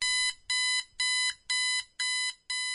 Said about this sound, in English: An alarm screams at me, shrieking over the wasted world as I thrash and try to rip my own ears off.